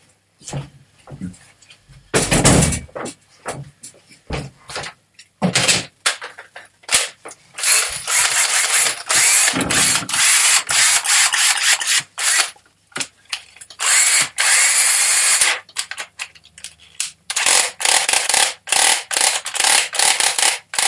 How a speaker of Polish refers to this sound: Okej. Drzwi pozamykane, wszystko zabezpieczone.